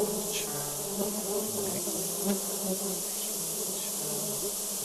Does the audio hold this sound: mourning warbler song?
no